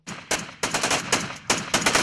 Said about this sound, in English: The sound of Kurdish fighters exchanging gunfire with Turkish forces.